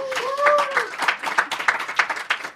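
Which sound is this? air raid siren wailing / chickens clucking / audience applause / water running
audience applause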